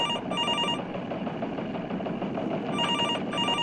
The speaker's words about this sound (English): Wait a minute, my cell phone is ringing.